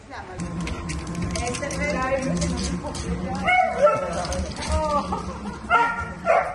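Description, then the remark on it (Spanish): Two border collie dogs bark, yip and whimper excitedly on a hospital rooftop while visiting their hospitalized owner, in short, eager bursts that get louder toward the end, with people's voices murmuring in the background. “Tony ha podido ver a Cata y Togo, sus 2 perros border collie”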